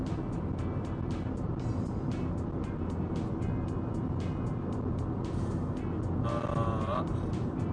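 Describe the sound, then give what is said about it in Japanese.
Steady, continuous road noise from inside a car moving on an expressway during the Obon holiday, slightly uphill with a lot of traffic, a low engine and tire rumble with a faint whine, while other traffic passes. “いやなんかおお結構車あるな。微妙に上り坂になってるから向こうの車が非常によく見える。”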